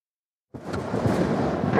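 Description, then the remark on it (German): After a moment of silence, a dense, steady roar of wind and rain sets in abruptly as the weather turns to storm over an island shore, with deep rumbling underneath, loud and sustained. “Das Wetter kippt. Es beginnt zu regnen und zu stürmen.”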